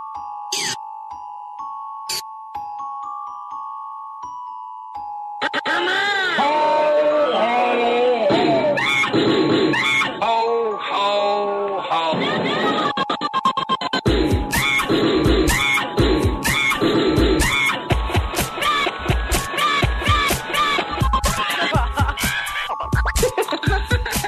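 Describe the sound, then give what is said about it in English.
An old-school dubstep-style Christmas tune opens with a few chiming bell tones, then bursts into loud wobbling synths, with heavy, steady bass thumps and crisp beats driving the second half. No one speaks. “Oh, that's straight up like old school dubstep Christmas.”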